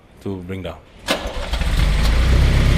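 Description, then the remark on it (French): A car vending machine's lift lowering a car from the top floor to the bottom after the "Show" button is pressed: a brief tonal chime or voice, then a clunk, followed by a steady, low mechanical rumble that builds and holds to the end. “j'appuie sur « Montrer » et la voiture va descendre du distributeur automatique.”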